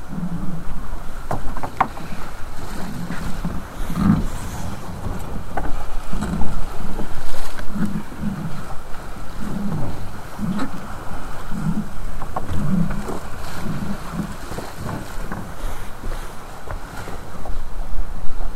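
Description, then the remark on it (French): A boat's engine drones steadily at sea under grey skies, with wind buffeting and water rushing and slapping against the hull throughout. No one speaks. “On est bien en mer quand même.”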